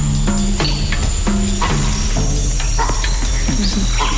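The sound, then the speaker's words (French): An adult male Campbell's mona monkey gives a "rock" alarm call, a call given during an eagle attack: short, low, hoarse barks repeated at irregular intervals over a steady, high insect drone and a low background hum. “Ça, c'est un rock émis par le mâle monde de Campbell.”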